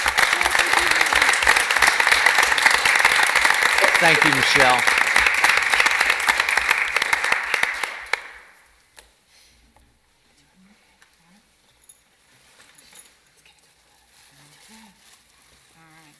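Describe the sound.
A crowd claps steadily in a dense, sustained wash of applause for about eight seconds, given in honor of a board member's commitment to the education system, then it fades out and a single voice speaks briefly in the quiet that follows.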